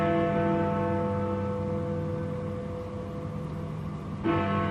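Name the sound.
church bells ringing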